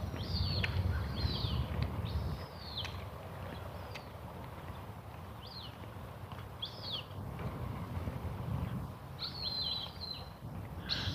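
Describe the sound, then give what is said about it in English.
Cooper's hawks calling in scattered bursts of sharp, whistled cries, heard during a morning walk, set against a steady low outdoor rumble with no one talking. “Here are the Cooper's hawks.”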